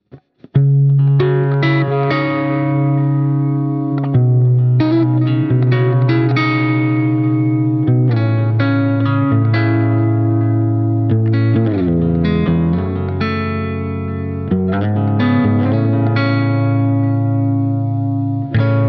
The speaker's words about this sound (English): Here's the Edge of Breakup preset played with a finger-picked Gres Mendocino.